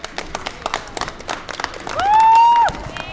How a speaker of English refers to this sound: Even tonight's game has drawn quite a crowd. The Eagles trail by 25 points at halftime, but Fort Washakie fans cheer on.